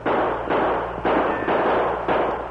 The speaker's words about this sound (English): See it. Then shoot. Return the fire.